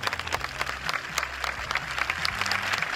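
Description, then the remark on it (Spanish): Steady final applause from a crowd at a manufacturer's event on a campus in Getafe, Spain, attended by the king and the Spanish prime minister; dense rapid clapping that holds at an even, fairly loud level throughout, with a low hum underneath. “con la asistencia del rey y también la del presidente del gobierno, entre otras autoridades, además de la plana mayor, por supuesto, del fabricante, en un evento que tuvo su paseo por el campus, su foto de familia y, por supuesto, su aplauso final.”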